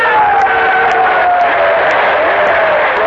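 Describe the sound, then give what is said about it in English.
A large crowd applauds and cheers in a loud, steady roar of clapping and voices that holds for about three seconds with no break, a few higher shouts rising above it. “Applaud and cheer, because that is a record made by your brothers.”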